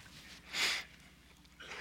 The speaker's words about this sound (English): And I'm going to not surrender, but blow my nose. So. Sniffling preacher, I guess.